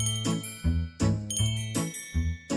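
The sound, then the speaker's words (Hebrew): Bells on the door of a small grocery shop at the end of a street of shops jingle as someone enters or leaves, in a quick, bright series of about seven rhythmic strikes, fairly loud, each ring shimmering briefly before the next, with no voices. “פעמונים בדלת רועדים בקצה, גלין גלן לנכנס, גלין גלן ליוצא.”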